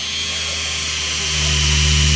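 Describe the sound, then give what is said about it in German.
A small coaxial remote-controlled toy helicopter from Yamaha Toys hovers in Hall 6 of a games trade fair, its electric rotors whirring with a steady, high-pitched buzzing whine and a low hum beneath it. The sound swells slightly louder partway through, with no talking. “Helikopter, Raumgleiter und richtig schwere Transporthubschrauber hören Sie hier im Hintergrund.”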